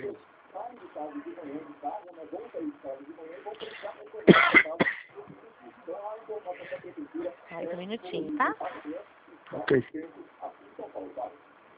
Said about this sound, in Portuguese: Tá meio gripado hoje? Não? Na tosse.